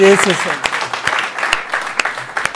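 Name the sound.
audience clapping hands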